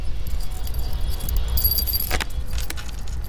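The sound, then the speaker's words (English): Keys jangle and clink in a burst of fumbling at a yacht's bridge controls, fairly clear, over a steady low engine-like rumble that continues throughout. “He slowly moves towards the bridge controls and fumbles with the keys.”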